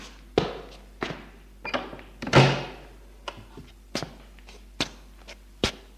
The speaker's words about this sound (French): ouvre une porte du couloir.